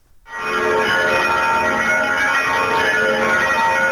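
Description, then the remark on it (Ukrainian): Easter church bells in Rome peal loudly and continuously, a dense wash of overlapping ringing tones that swells in right away and sustains without a pause, with no voices over it. “Лунають великодні дзвони у храмах вічного міста.”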